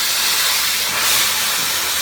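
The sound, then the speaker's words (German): A high-pressure water jet at up to 3000 bar cutting through the plastic and wood of a wind turbine rotor blade, a loud, steady, bright hiss like a giant Kärcher pressure washer, continuous for about two seconds with no talking. “Die Lösung sind Wasserstrahlen mit einem Druck von bis zu 3000 Bar.”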